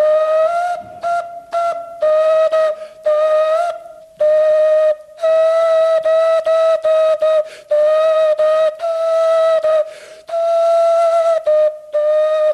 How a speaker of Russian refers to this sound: Как вы думаете, сколько времени эти орехи не звучали? Я думаю, что сотню лет не звучали точно, при свидетелях, так скажем. Эти свистульки сделаны из кокосовых орехов. Всего-то два отверстия.